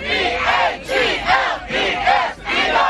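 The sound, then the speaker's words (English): A loud crowd of Philadelphia Eagles fans roaring and chanting together in rising, repeated swells of cheering, celebrating the Eagles beating the Commanders in the NFC Championship game to return to the Super Bowl, with many voices blending into a continuous celebratory din. “Eagles fans celebrating as the Birds are heading back to the Super Bowl after beating the Commanders in the NFC Championship game yesterday.”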